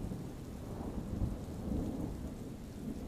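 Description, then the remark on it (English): Steady rain pours down while low, rolling thunder rumbles continuously underneath, a deep, sustained storm sound with no voices. “Enjoy these allegedly true scary bedtime stories with the serene sounds of a thunderstorm.”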